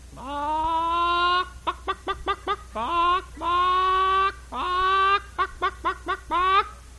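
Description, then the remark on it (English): A voice imitates a clucking hen strutting around just out of the hen house after laying an egg: long drawn-out squawks alternating with quick bursts of short clucks, loud, with no other sounds around it. “And there's that old hen, boy, she's strutting around.”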